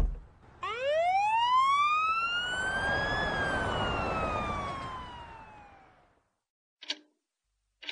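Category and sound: vehicle, police car siren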